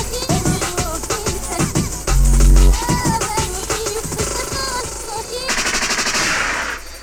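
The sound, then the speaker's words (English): Loud, rapid-fire gunshot sound effects crackle in dense bursts over a music backing, with a deep booming hit partway through and a hissing wash near the end. “Liquid means rewind, a gunshot means fire.”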